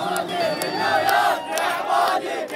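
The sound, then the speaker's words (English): A large crowd roars and chants together at a stadium campaign rally for Abadi, a dense, sustained wall of many voices with rising swells of shouting and cheering, loud and continuous throughout. “People in the crowd didn't seem to care that Abadi's microphone didn't work.”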